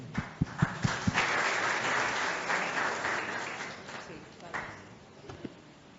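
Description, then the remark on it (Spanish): An audience applauds a representative of the Patronato Nacional de Ciegos at a recognition ceremony, a dense wash of clapping that starts with a few sharp individual claps and then holds at moderate loudness before thinning out near the end. “Aplauso.”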